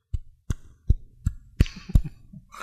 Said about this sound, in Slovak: Čo si sa dúbkal? Si dúbkal? Nie, som nechcel veľmi hlasno, aby som mikrofón nepopal. Ja si si po hlave búchal.